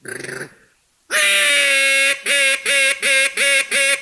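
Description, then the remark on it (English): A loud, reedy duck call blown: one long drawn-out blast followed by a quick, evenly spaced run of five or six sharp quacks, contest-style and brassy. “Ducks don't do that.”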